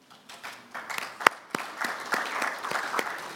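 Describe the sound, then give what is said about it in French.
A committee breaks into applause to elect Mike Turner of the United States as vice chairperson by acclamation, a dense patter of many hands clapping that swells and holds steady for a few seconds, with a few sharper individual claps standing out. “May I invite the committee to elect him by acclamation?”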